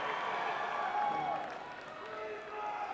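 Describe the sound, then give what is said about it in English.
An audience applauds and cheers for about three seconds at a mention of Terry Bradshaw and his four Super Bowls, a dense, steady wash of clapping with voices shouting over it, dipping slightly in the middle before swelling again. “You gotta cheer that one.”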